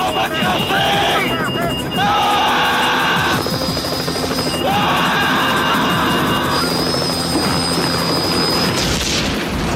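A helicopter exploding in the Quebec TV series L'Or, in which Jean-Marc Parent shoots at the helicopter: a loud, steady rotor roar mixed with heavy booming blasts and chaotic crackling debris, with rising whistling tones cutting through the dense noise.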